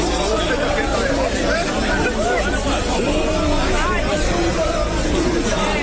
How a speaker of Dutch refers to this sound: Mogelijk is de brand ontstaan toen supporters Bengaals vuur ontstaken op de bus. Beelden daarvan gaan rond op sociale media. Je hoort hier het ongeloof van de mensen buiten de bus en het gezang van de supporters op de bus.